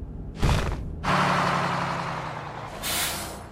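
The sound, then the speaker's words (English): A bus braking to a complete stop: a brief hiss, then a loud rumbling roar with a low whine that slowly eases off, ending in a sharp burst of air-brake hiss. “Please remain seated until the bus has come to a complete stop.”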